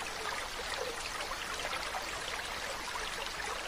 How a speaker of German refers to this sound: Lass den Atem in seinem natürlichen Rhythmus kommen und gehen und lausche dem Plätschern des Brunnens.